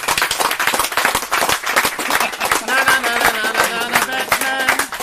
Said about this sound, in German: Abmarsch, erneuter Applaus. Nochmal Applaus.